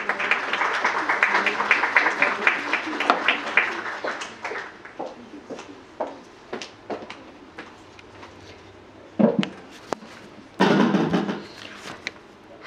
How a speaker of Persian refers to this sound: تقاضا میکنم با تشویق و اظهار.